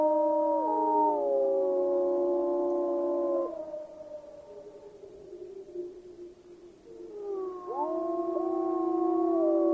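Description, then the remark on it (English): Several wolves howl together in a loud, overlapping chorus of long, gliding tones, fading to a quieter lull midway before the howling swells up again. No one speaks. “In today's 26th podcast, I bring you a wolf's dream.”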